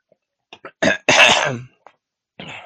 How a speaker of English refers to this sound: Sorry, I'm sorry. Let me just clear my throat real quick.